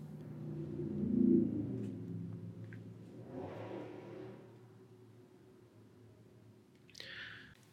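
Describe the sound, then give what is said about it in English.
A car with an intensely loud engine rumbles deeply as it drives past through a neighborhood, swelling to a peak early on and then fading into a low drone. A brief high chirp sounds near the end, with no talking. “All right, I had to break because apparently people love to drive through my neighborhood with intensely loud engines.”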